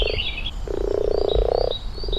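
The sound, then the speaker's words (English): A chorus of mating frogs croaking at a park pond, with a long rolling trill in the middle and shorter croaks around it, plus high chirping notes from other frogs layered above. “The sound of mating frogs.”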